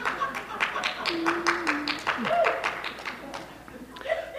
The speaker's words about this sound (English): You know, every time she claps, if you all would clap, everybody online would appreciate it. They really would.